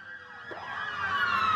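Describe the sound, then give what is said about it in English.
Emergency vehicle sirens wail loudly, their rising and falling tones overlapping and pitch-bending as they speed past a house in a neighborhood, with no voices present. “She said she could hear the sirens and emergency vehicles speeding past her house.”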